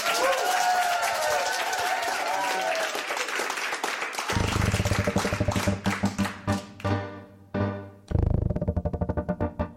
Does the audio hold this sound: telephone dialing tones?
no